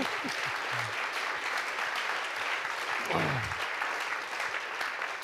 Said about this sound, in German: Immer einen grossen Applaus.